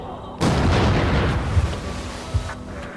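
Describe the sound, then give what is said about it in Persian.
A sudden loud gunshot blast of a fired bullet cuts in, followed by a long rumbling, echoing decay with a couple of smaller thumps, like artillery in open air. “خورشید سجده می‌کرد، پرنده ها سجده می کردند، حتی گلوله بعد از شلیک هم.”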